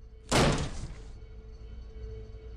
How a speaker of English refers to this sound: who raced to the Bland home and battered in the door.